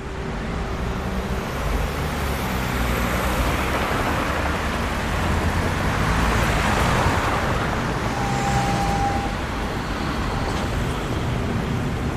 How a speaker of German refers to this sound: Hier ist ordentlich was los, kann man auch hören am Verkehr.